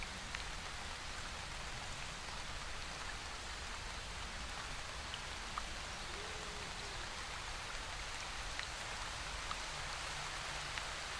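A steady, muffled roar of a waterfall overhead rushes on without pause, soft and continuous, the crashing water heard from underneath, with no voices present.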